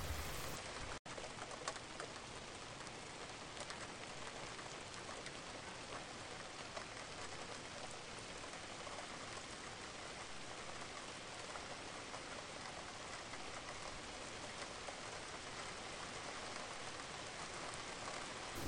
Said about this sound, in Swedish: Fem andetag, bara följa regnet och andetaget i synk. Känn hur regnet möter ansiktet samtidigt som du andas mjukt och lugnt.